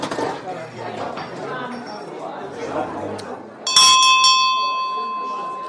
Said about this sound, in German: Das war der erste Gong und der zweite folgt sogleich. So, der erste Gong war?